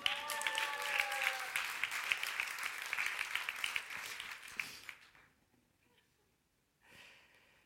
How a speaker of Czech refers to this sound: Víte, že tady teď mluvil Čecho-Američan a vy jste mu zatleskali jako Češi.